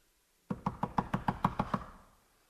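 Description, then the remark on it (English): A quick, steady series of about nine firm, fairly loud knocks on a door, each rap ringing briefly before fading into silence. “Ask and you shall receive. Seek and you will find. Knock.”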